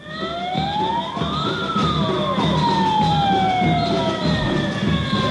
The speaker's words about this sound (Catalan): Això que sentiu és la concentració que s'ha fet avui matí a la plaça de Cort. Els socorristes de Palma s'han manifestat davant l'Ajuntament per advertir que si les condicions de les costes no canvien, com escoltar fa uns minuts, es farà una vaga